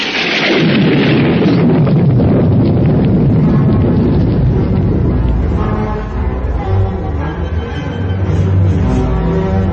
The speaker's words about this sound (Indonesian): Pada suatu malam, ketika itu hujan deras, bersambung dengan petir yang meledak menggelegar.